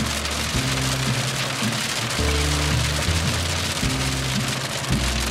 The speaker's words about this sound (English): Right as we get closer to the prison, it's absolutely pouring. Saw a few forks of lightning. No thunder yet.